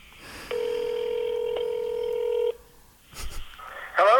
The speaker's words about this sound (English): I'm calling another Wendy's.